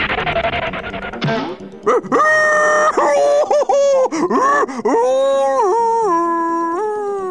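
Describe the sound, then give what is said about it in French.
A loud howl from the Big Bad Wolf in pain and fury after crashing headlong into a tree while chasing two little pigs: after a brief rushing burst of noise, a series of drawn-out, wailing cries with rising and falling pitch, sounding anguished and angry, with no talking. “Rugit-il de douleur et de fureur avant de repartir à la poursuite des deux petits cochons.”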